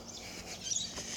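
birds chirping outdoors

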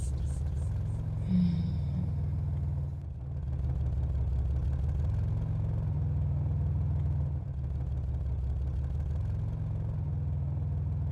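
car engine running

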